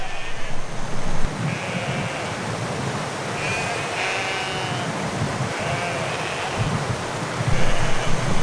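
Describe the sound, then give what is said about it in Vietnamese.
A herd of goats bleats several times in a loose, overlapping series as they walk a steep path in search of drinking water, over a steady rush of outdoor wind noise; no one speaks. “Vật nuôi phổ biến nhất là dê bởi chúng có khả năng đi trên sườn dốc.”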